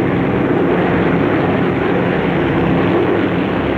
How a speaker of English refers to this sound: As the bomber continues across the countryside, the plane passes over more flat wetlands.